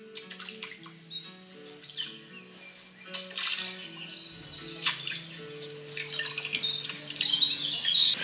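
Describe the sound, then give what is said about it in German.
A few ducks jump into water, quacking and squawking while water splashes and sloshes in repeated bursts, with no voices present and bird calls blending with the watery noise throughout. “hier hören wir ein paar Enten, die genüsslich ins Wasser springen.”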